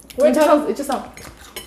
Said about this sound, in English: It sounds weird, huh? A little? No, I can hear all the chewing.